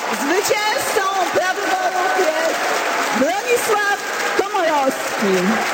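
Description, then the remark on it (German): Civic Platform party supporters cheer and applaud steadily as campaign manager Hanna Gronkiewicz-Walz announces the result of the party's internal presidential candidate vote, with a dense wash of clapping under many overlapping shouting and whooping voices, rising and falling pitch calls rising above the roar throughout. “Wahlkampfleiterin Hanna Gronkiewicz-Walz verkündete das deutliche Verdikt unter dem Jubel der Parteianhänger.”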